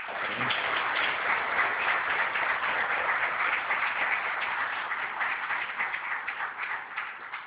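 An audience at a poetry award ceremony in Nicaragua claps steadily and densely throughout as a tribute to an absent prize-winning author, a sustained wash of many hands applauding at an even, fairly loud level, easing slightly near the end; no one speaks.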